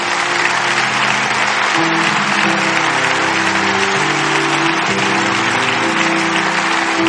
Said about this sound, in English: Get out of your seat right now and come. Give them a hand clap as they come from all over this building.